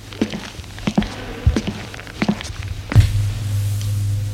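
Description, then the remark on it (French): Footsteps walk along a hallway at a steady, unhurried pace, several hollow thuds about two-thirds of a second apart. Near the end a low, steady hum sets in beneath the last step. “L'on entend des pas dans le couloir.”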